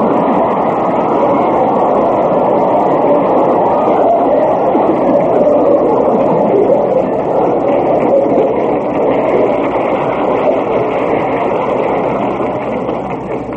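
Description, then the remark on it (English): A large audience claps in a dense, steady roar of applause that holds at full strength for over ten seconds before easing slightly at the end, with no voices over it. “That applause will sustain him for a year.”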